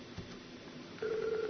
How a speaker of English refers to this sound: And you can hear the phone ring.